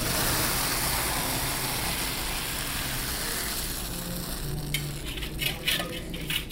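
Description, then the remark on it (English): Hot fudge of syrup, cream and chocolate, cooked in a big copper kettle to 232 degrees, is poured into a frame on marble slabs: a steady, dense hiss and wet rush runs throughout, joined near the end by a few sharp clicks and taps. No one speaks. “When it gets to that temperature, we bring it out and we pour it here on the marble slabs into this frame.”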